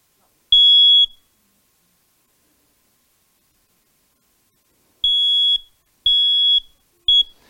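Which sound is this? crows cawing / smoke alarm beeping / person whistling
smoke alarm beeping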